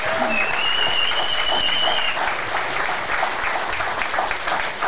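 An audience at the 400th edition of a show claps steadily throughout for a member of the editorial team, a dense, loud wash of applause with no breaks, joined briefly at the start by a high whistle-like tone.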